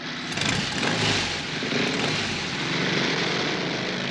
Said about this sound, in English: She starts her motorcycle and drives away with Witherspoon.